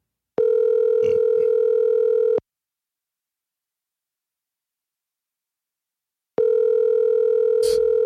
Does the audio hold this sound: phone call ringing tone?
yes